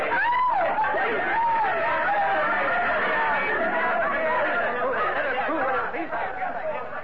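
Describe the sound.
A dense tangle of overlapping voices shouting and crying out at once as a police trap is sprung amid scuttling figures in an ill-lit room, loud and steady for several seconds, with high rising yells cutting through the confused din.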